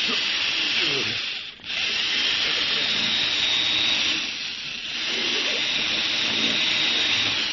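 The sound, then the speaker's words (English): A drill grinds steadily into a vault in the radio drama Boston Blackie, a continuous harsh whirring that briefly dips twice before resuming at full strength, fairly loud throughout. “Go ahead with your drill, Addy.”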